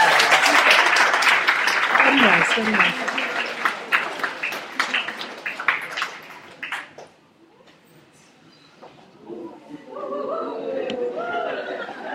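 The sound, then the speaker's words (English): A crowd claps enthusiastically for several seconds for an author given a special mention, the dense applause gradually thinning out and fading away, after which a voice begins speaking near the end. “who's also a great author and deserves applause.”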